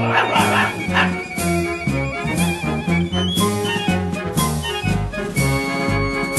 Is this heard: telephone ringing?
no